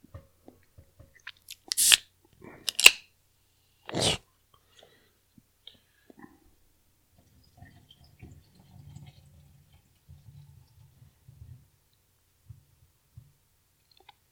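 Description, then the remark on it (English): Someone chewing a sausage: three sharp, loud bursts of biting early on, then several seconds of soft, low, muffled chewing. No one speaks. “And I grabbed another one of Steve's sausages. Ow. Pretty tasty.”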